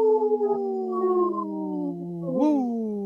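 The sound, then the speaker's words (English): A long, sustained wolf howl imitated by a voice, holding a steady tone that slowly sinks, then swoops upward near the end in a brief rising wail. It is fairly loud, with no talking. “Howling for Wolves, protecting wolves for future generations. Howl! Howl! Woo!”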